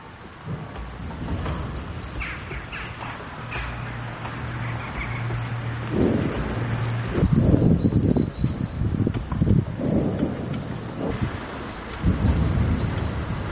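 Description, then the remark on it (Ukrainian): Rumbling booms roll in a sustained series from Grad multiple rocket launcher fire in Avdiivka, Ukraine, aimed at Ukrainian Armed Forces positions, with explosions, low and thunder-like over steady background noise, with no one talking. “Скоріше за все, Градів. Летить кудись на позиції Збройних сил України.”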